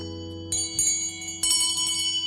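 A bell is struck a few times in quick succession, bright metallic clangs over a steady, sustained ringing hum that carries through the whole moment, close and fairly loud with no voices.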